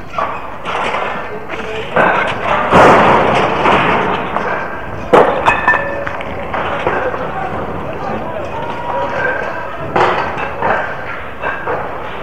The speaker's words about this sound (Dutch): een grote groep mensen, druk bezig om barricades op te bouwen. Barricades van steigerpijpen, hout en autobanden. Er wordt gedisciplineerd gewerkt en de pers is ook grotendeels aanwezig. En ik kan jullie alleen maar wat barricadegeluiden laten horen.